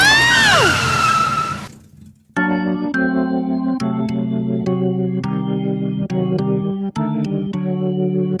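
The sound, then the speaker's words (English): A car skids on a street at midnight on New Year's Eve with a high, wavering tire screech for nearly two seconds, then after a brief pause a loud, steady run of horn blasts follows, restarting with sharp attacks. “Look out for that car. You're going to get run over if you don't...”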